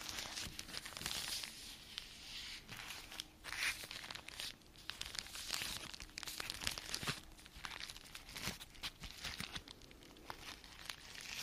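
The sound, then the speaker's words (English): Natural paper and cardboard packaging being unwrapped, with continuous crinkling and crumpling, occasional tearing rips, and irregular handling rustles throughout, no voices present. “I'm so happy to see this paper and cardboard versus”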